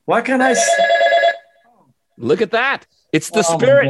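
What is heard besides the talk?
telephone ringing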